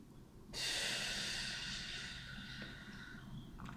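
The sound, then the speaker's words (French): A strong, breathy exhalation, released after a deep breath held while tensing the legs and feet, bursts out abruptly, then slowly trails off over a few seconds into quiet, with no one speaking. “Vous allez éliminer toutes vos tensions inutiles et vos peurs en soufflant fortement.”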